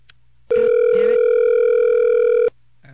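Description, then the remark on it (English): A steady, loud cell phone dial tone of an outgoing call hums continuously for about two seconds, then cuts off abruptly, with faint background noise before and after. “I'm just picking numbers out of my cell phone and I'm calling them. And, it's not working.”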